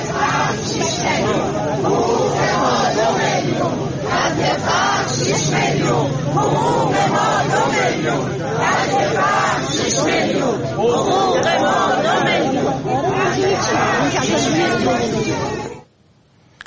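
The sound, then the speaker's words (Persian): A large protest crowd of retirees chants and shouts together in front of the Plan and Budget Organization in Tehran on a Tuesday, a loud, dense mass of voices that holds steady for about sixteen seconds before cutting off abruptly. “در اینجا ابتدا ویدیویی داریم از تجمع اعتراضی بازنشستگان در تهران در مقابل سازمان برنامه و بودجه که روز سه‌شنبه انجام شد.”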